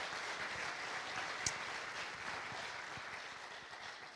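A crowd claps steadily in a room, dense overlapping applause with scattered sharper claps standing out, sustained at a moderate level throughout without any talking.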